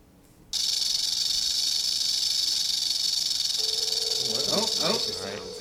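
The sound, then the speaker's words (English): A rattlesnake's rattle starts abruptly as a loud, steady, high buzzing hiss that holds for about five seconds, with a voice talking over it near the end before it fades. “So here's a dangerous snake. Let's see if he'll come through for you. Rattlesnake.”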